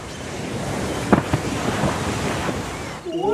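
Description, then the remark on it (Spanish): A large splash as a blue whale leaps out of the ocean, with a couple of sharp bursts over a steady rush of ocean surf and wind. No one speaks. “Mientras Pedrito y sus amigos se divertían, de pronto algo saltó del agua.”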